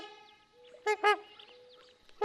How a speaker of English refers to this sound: The trumpeter swans tend to have a lower-pitched call that sounds a bit like a French horn.